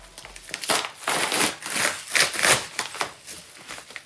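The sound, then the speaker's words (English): Plastic or paper packaging crinkles and crackles as a package holding the first hard copies of a book is torn open in a home kitchen, a continuous run of bright, rustling bursts rising and falling for several seconds with no voices. “On January 4th, 2024, the first hard copies arrive at my house. The family all gathers in the kitchen. All right, I'm opening it up.”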